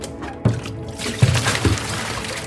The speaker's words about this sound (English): Now, if only I had something to cool me down after that intense workout. What was that? A whole vessel of cold water? Sounds perfect.